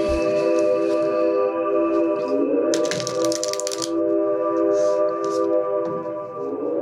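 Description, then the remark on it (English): A deck of cards is shuffled, a brief crisp riffling burst of papery clicks lasting about a second, over a steady background hum. “Okay, I'm shuffling.”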